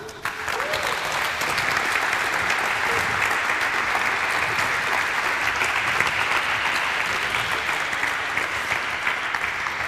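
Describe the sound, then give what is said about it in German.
Sustained applause from an audience for a speaker finishing a talk fills the whole stretch, a dense, steady wash of many hands clapping at even loudness, continuous without pauses or voices standing out. “Nee, ist ja gut, wenn du fertig bist, dann hol dir doch erstmal deinen Applaus ab.”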